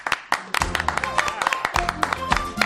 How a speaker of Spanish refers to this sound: Hoy que tengo público, la ovación de bienvenida tiene que sonar, pero bien.